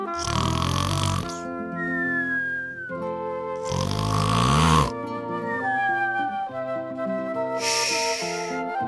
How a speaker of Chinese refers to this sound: 小猪好高兴啊，他抱着软软的白云枕头回到屋里，将头靠上，一下子就呼噜呼噜地睡着了。